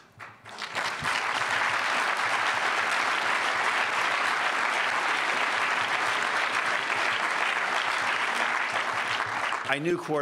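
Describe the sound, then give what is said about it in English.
Sustained audience applause after a speaker quotes Justice Gorsuch, a dense steady roar of clapping hands that swells in quickly and holds at full volume for about nine seconds before a voice begins to speak at the end. “So on behalf of him, thank you for applauding his words.”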